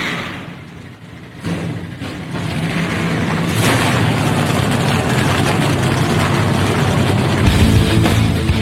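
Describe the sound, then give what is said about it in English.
A field of race car engines fire up on the command to start engines at the Focused Health 250 in Austin, Texas, and roar into a loud, sustained, rumbling drone that builds and holds steady, with no one speaking over it. “Command, just bring your mounts, crank them up.”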